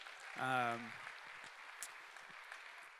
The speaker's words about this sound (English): She's stepping into our kids' ministry. She's actually over there shadowing right now, learning the ropes. So we could clap that up, too.